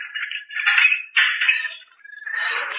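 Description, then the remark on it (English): A door is unlocked with a key and pushed open: a few scraping, rattling bursts followed by a drawn-out creak, with no one speaking. “Oh, you got the key? Yeah. Open the door.”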